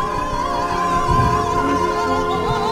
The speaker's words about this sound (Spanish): Suena esa campana.